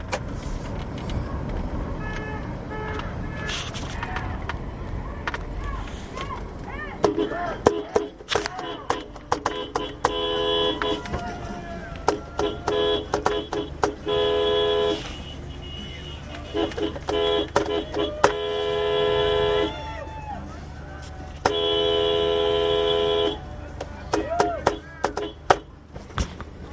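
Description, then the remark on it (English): A car horn honks repeatedly in long, sustained blasts over steady road and engine noise, with several separate bursts, as a sticker-covered car drives past a campus honking in support of students; voices audible in the background. “And all that honking was me supporting the students as I careened past in my sticker mobile.”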